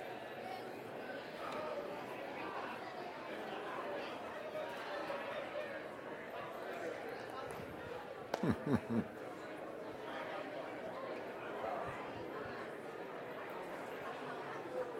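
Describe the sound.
A church audience murmurs and chatters steadily as people hug one another and wish each other a Merry Christmas, overlapping voices filling the background, with a brief cluster of sharp pats or thumps partway through.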